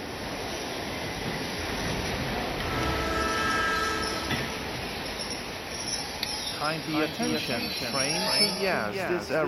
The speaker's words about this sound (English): Kindly attention, train to Yazd is arriving on time at platform number 4.